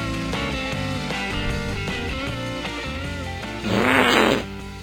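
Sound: fart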